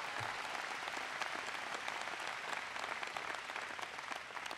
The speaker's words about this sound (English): The Lieutenant Governor, John Bollinger, is here. Give John a big round of applause.